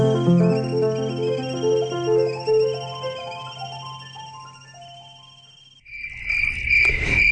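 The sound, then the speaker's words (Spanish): A gentle, tinkling melody with a low steady drone plays, then stops abruptly and gives way to a loud, shrill cricket-like trill for the final seconds. “El grillo cantor.”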